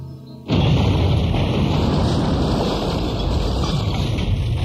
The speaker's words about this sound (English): The explosion was so great that Stauffenberg thought no one could have survived.